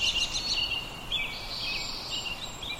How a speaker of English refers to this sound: to hear the dawn chorus of birdsong. Do you hear that